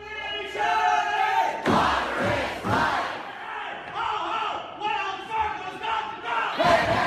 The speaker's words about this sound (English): The sound of protesters applauding the Seattle City Council, which decided in a unanimous vote to divest its investment activities with the Wells Fargo Bank, which handles about $3 billion a year for the city.